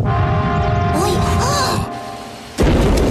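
A stove's damper door bursts open with a sudden loud crash near the end and a tub of dough flies out. Before this come a few seconds of steady rumbling, humming noise as the stove shakes, which briefly drops away just before the impact.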